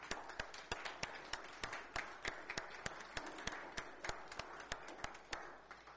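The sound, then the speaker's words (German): An audience applauds steadily for several seconds, a dense wash of many hands clapping together, with sharper individual claps cracking through at a fairly quick, uneven pace and no voices. The applause is given for the Lord. “Lasst uns ihm einen Applaus geben.”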